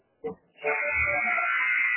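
A loud, sustained basketball arena buzzer, the second buzzer at the 8-minute mark, blares for over a second after a brief crowd murmur, its harsh tone filling the space with steady intensity.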